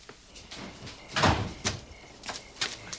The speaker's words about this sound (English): Hey, I think I just heard a car door.